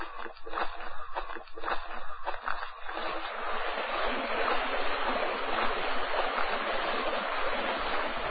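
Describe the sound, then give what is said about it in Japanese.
The wide Kakogawa River, flowing south toward Takasago, rushes steadily and continuously, with a few uneven splashing surges in the first few seconds before settling into an even, hissing flow. “川を越えて大地へ入り、それを過ぎると流れ広き川が見えてくる。”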